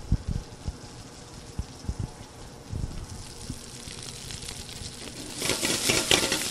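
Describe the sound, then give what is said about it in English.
Chopped garlic and Brussels sprout leaves wilt and sizzle in oil in a hot pan with a steady crackle, broken by a few dull knocks of stirring, before the hiss swells louder in the final second. “And he's wilting the leaves from the Brussels sprouts.”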